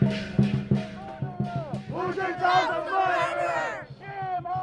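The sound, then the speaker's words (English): A protest crowd, many of Tibetan descent, shouts "shame" at the Chinese president Hu in loud, rhythmic unison, voices rising into sustained yells, with layered chanting throughout. “Many of those shouting shame on the Chinese president were of Tibetan descent.”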